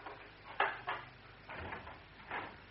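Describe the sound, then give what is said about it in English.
A door with a peephole being opened for a woman visitor: two quick sharp clicks of the latch, then a longer, soft scraping sweep as it swings, all fairly quiet with no voices. “Open the door.”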